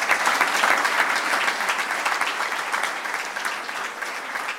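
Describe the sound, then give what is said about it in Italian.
Sustained audience applause in memory of Maria Grazia Meli, the first woman municipal administrator of Santa Giusta (1985 to 1990), a dense crackle of many hands clapping at a steady level for several seconds before easing slightly toward the end. “La volevo ricordare perché è stata la prima donna amministratrice comunale di Santa Giusta dal 1985 al 1990, e quindi la ricordiamo con un applauso.”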